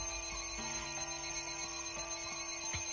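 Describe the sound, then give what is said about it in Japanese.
An alarm rings continuously, a steady, loud metallic jangle with rapid repeating strikes and a clock-like ticking pulse running underneath, with no voices. “お前がいればこんなアラームなんて。”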